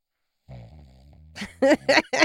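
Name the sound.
fart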